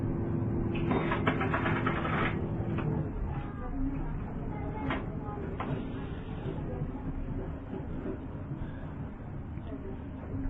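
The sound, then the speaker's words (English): A boat engine drones steadily during a boat ride through Melbourne Harbour, a thick low rumble that never lets up, with a few brief clanks and rattles early on and muffled voices faintly underneath. “Hare Krishna, thank you for coming on this spiritual boat ride through the Melbourne Harbour.”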